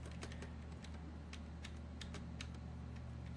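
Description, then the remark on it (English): Repeated computer keyboard key presses, the page down key hit again and again to step through video frames, sharp clicky taps in an irregular run over a steady low hum with no voices. “And I'm just hitting page down and just going through it.”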